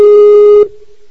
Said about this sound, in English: I should really turn off the Skype sound.